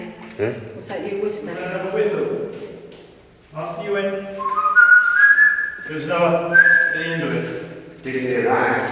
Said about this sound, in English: I whistled it and it really stops. You know, there's enough whistle at the end of it.